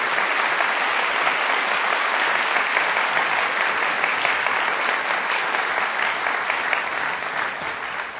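Sustained applause from an audience, a dense, steady wash of many hands clapping at even loudness for about eight seconds, easing slightly at the end, with no voices standing out.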